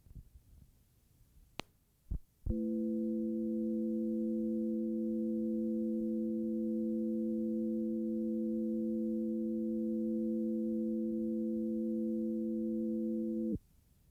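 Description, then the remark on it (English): A few brief clicks lead into a steady chord of pure sine tones, several pitches stacked in the low-mid range, held evenly and loudly for about eleven seconds before cutting off abruptly. “An interval chord for healthy blood.”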